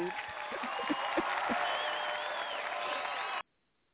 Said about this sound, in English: and the applause. Yeah, applause, you know. We're clapping. Keep clapping.